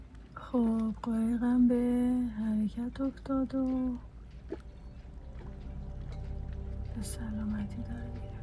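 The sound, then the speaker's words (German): A few seconds of voices give way to a steady, low rumble of a ship's engine getting underway at dawn, shortly before 6 a.m., heading for the open sea, with water washing faintly at the shore and the drone slowly building. “Langsam beginnt die Morgendämmerung und das Schiff setzt sich in Bewegung. Es nimmt Kurs auf das offene Meer.”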